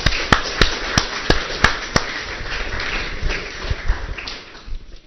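An audience applauds: a dense, steady patter of many hands, with a few louder, evenly spaced claps standing out early on, before the clapping thins and fades at the end.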